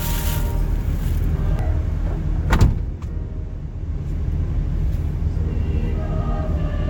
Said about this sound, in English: We can't go until the door is closed.